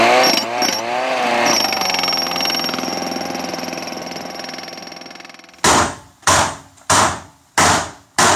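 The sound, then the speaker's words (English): A steady mechanical whine fades out, then a hammer strikes a chisel four times in quick, even succession, breaking apart frozen soil samples from wet sedge tundra. Each loud blow rings briefly before the next, with no talking. “using a hammer and a chisel to break apart soil samples from the wet sedge tundra.”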